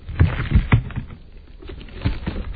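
A sticky strip is slowly peeled off skin, giving crackly, low tearing bursts that start and stop several times, easing in the middle before a final louder rip. No one speaks.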